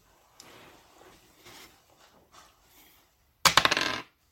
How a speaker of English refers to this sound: Do you want to roll me a D100? See what comes up.